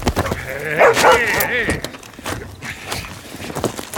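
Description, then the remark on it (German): A dog being put onto the back bed of a truck barks and yelps in a short, loud cluster near the start, then falls quieter while muffled voices and shuffling movement continue in the background. “Ich sagte, hol den verdammten Hund da runter.”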